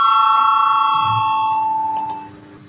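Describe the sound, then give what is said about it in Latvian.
A parliament voting bell, rung before a vote on the Cabinet of Ministers' proposal 42, sounds as one steady, sustained electronic tone for about two seconds, then fades out, with a couple of faint clicks near the end and no talking. “Lūdzu zvanu, balsosim par 42. ministru kabineta priekšlikumu.”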